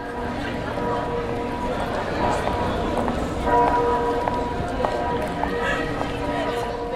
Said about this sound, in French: Ces cloches que vous entendez, ce sont celles de la basilique San Marco de Venise. Elles ont été enregistrées au début des années 2000